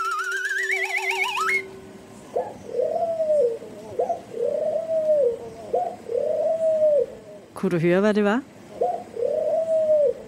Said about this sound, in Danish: Det er lyden af en hvid due, eller faktisk en fredsdue.